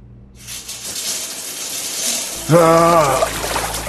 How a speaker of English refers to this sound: The hot water of the shower felt good on Ryan's skin.